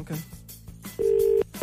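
A telephone line rings on a call placed from Today FM to Alison Spittle. A steady, low electronic tone holds for about half a second, pauses briefly, then starts again, with faint clicks before it, heard clearly through the handset.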